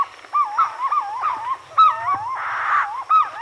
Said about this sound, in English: In a nearby tree, purple-throated fruit crows add their voices to the sunrise chorus.